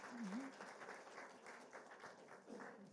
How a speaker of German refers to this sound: Ich hätte gesagt, erstmal großen Applaus.